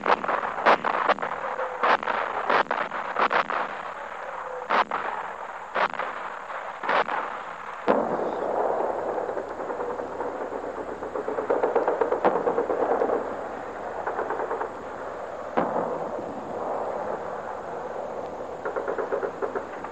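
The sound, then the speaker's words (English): An artillery barrage of 4.2-inch mortars, field guns, medium guns and the guns of the fleet, with shells whistling overhead: a rapid series of sharp, heavy bursts for several seconds, then a continuous rushing roar with scattered thuds. No one speaks. “The shells are whistling overhead now. Just listen to them.”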